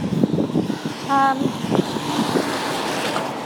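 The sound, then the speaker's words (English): Gusty wind rushes and buffets the microphone outdoors as someone walks back from school drop-off, a steady low rumble with irregular bursts, while a brief higher tone sounds faintly partway through. “And it's a bit windy, isn't it?”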